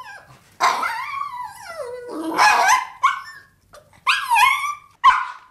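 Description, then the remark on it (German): A small dog yaps about five times in high-pitched, whiny barks, some drawn out into yelps, fairly loud with short pauses between, and no voices. “Sie haben jetzt eine Vorstellung davon, dass da gerade ein Hund gebellt hat.”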